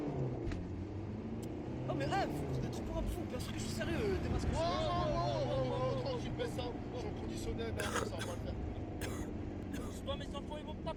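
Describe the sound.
A van drives steadily along a road, its deep engine rumble and road noise continuous throughout, with faint, indistinct voices in the background.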